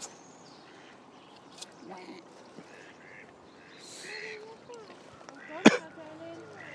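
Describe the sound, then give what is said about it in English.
Geese honk in scattered, overlapping calls over a busy outdoor background, with faint voices and one sharp, loud knock toward the end. “nearly got her arm broke by a goose.”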